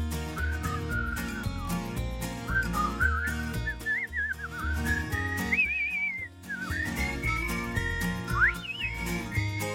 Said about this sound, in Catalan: I vols que digui, mira, són aquests que sonen. Vull dir, entens, oi? Ai, que bonics. Veus? Ara xiulen. Veus?